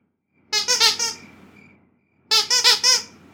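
A cat, Squeaky Kitty, squeaks in two short bursts about a second and a half apart, each a quick run of high, chirpy squeaks. The sounds are fairly loud, with no talking.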